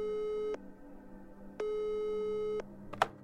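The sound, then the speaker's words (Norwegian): A telephone ringback tone, on a call placed to a university professor in Lidköping, Sweden, sounds in steady one-second beeps separated by pauses, clear, with a brief click near the end and no voices. “Vi ringer han for å få vite hvordan dagens satanisme ser ut.”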